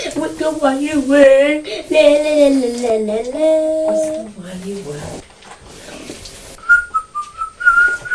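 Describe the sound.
A voice carries a wavering melody for a few seconds, then after a pause someone whistles a short, clear tune in a few bright bursts, close and fairly loud.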